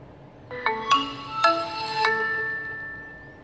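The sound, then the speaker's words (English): A short smartphone startup jingle as the phone boots up after its power button is pressed, with TalkBack enabled: about five bright, bell-like notes rising over two seconds, the last chord ringing out and fading slowly. Clear, with no talking. “Hopefully this sound reminds a lot of people to Nokia.”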